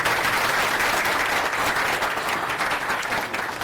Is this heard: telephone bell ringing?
no